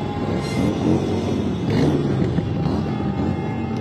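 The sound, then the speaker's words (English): Engines of San Francisco's Pride Parade on Market Street rev and rumble continuously in a thick, loud, low roar as horns honk, with a faint steady high tone running through it and no speech. “With the revving of their engines and the honking of their horns, San Francisco's Pride Parade kicked off in style.”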